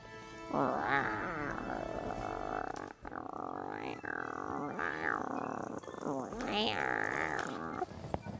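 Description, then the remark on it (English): A person imitates a bear's growl with a long, loud, rumbling vocal snarl that rises and falls in several pitched surges over about eight seconds, breaking briefly midway. “And then they heard a growl. Let's hear your growl.”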